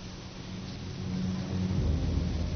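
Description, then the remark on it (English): A steady hiss of rain during the first winter storm at Ballona Creek in Playa del Rey, with a deep rumble of thunder swelling and growing louder toward the end. No voices, just the storm. “During the first winter storm at Bayona Creek in Playa del Rey, our cameras documented a bizarre spectacle.”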